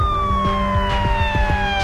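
A loud police car siren, following behind a vehicle, holds a steady wail that drifts slowly lower in pitch over a rumbling vehicle engine with a few scattered knocks. No one speaks.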